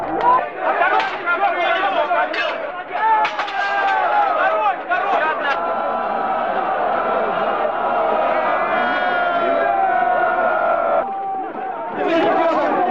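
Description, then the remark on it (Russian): A large, agitated crowd shouts and chatters in a dense, continuous roar during street unrest in October 1993, with sharp cracking gunshots punctuating the first half and excited cries rising near the end. “Кто-то поднимает красный флаг, кто-то что-то ломает. Лежат раненые, раздаются выстрелы.”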